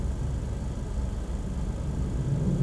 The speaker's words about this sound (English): What the fuck is that? Why is there a jet fighter at 11 o'clock in the morning over Pompano Beach?